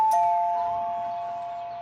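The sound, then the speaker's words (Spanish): A single electronic house doorbell chime rings out clearly, two bright tones close together that then hold and slowly fade over almost two seconds, with no voices present. “La familia Otero estaba en la cocina cuando sonó el timbre de la casa.”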